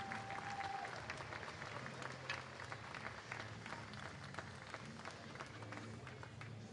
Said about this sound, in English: And Lawless gets up. It's an ovation from the crowd.